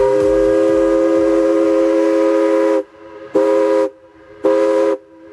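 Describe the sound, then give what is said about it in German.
A paddle steamer's steam whistle sounds loud across the Elbe valley near Radebeul on a sunny day in August 2021, with tourists waiting at the landing: one long, rich harmonic blast over a low rhythmic chugging, then two short blasts with brief gaps between them. “Die Dampfpfeife des Raddampfers Velen tönt durchs Elbtal bei Radebeul.”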